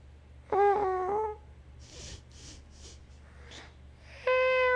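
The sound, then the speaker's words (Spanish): A person imitates a cat for others to guess, giving a drawn-out nasal meow, then a few breathy puffs and sniffs, and finishes with another loud, steady meow-like vocal tone. “Un gato. Sí. Exactamente.”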